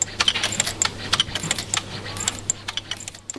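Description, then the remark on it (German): Machines in a noisy production hall where mechanical lock cylinders are made click rapidly and irregularly with sharp metallic ticks, over a steady low hum and a faint background hiss. Women work at the many machines. No one speaks. “Es klickt und zischt, es riecht nach Metall.”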